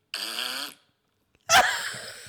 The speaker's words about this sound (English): Going, have you just had your Sunday lunch? Because if so, I'd like to fart into this iPhone. Okay, here we go again.